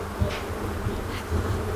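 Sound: swarm of bees buzzing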